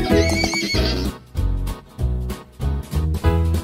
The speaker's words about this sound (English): Horses can sleep standing up. And they love to run fast.